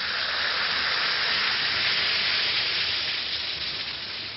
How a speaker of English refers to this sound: That's action in the glass. Yes, it's action in the glass, changing Alka-Seltzer tablets into the liquid form your system can use easily.